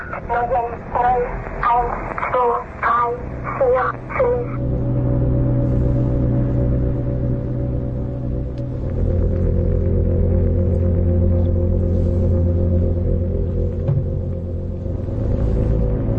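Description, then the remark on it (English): A shortwave radio signal from a numbers station that broadcasts 24 hours a day: a few seconds of warbling, tinny tones give way to a steady, loud droning buzz with a low hum that continues unchanged to the end. “There seem to be more efficient ways to reach spies than to put out a 24-hour signal that anybody with a little luck could pick up, right?”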